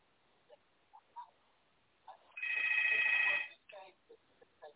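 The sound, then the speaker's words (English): A phone rings once in a loud, steady, high-pitched electronic burst lasting about a second, with brief snatches of voices before and after it. “Somebody's phone ringing.”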